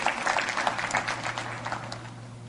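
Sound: audience hand clapping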